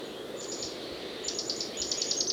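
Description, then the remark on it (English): Mexican jays calling in quick runs of short, high, repeated notes, three bursts that grow slightly louder, over a steady low background hiss. “The Mexican jays are still carrying on behind them.”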